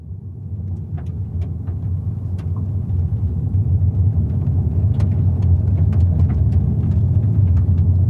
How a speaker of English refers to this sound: Seeing our first truck in like 7 miles.